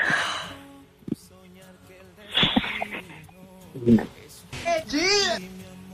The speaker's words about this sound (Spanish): No, pues está llorando.